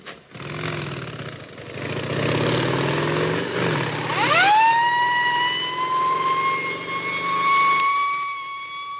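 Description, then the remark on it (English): Motorcycle engines rumble, then a police escort siren winds up sharply and holds a loud, steady wail over the engine noise, continuing to the end. A motorcycle escort is carrying cholera vaccine to LaGuardia Airport, New York, in October 1947. “Motorcycle escorts to LaGuardia Airport, New York.”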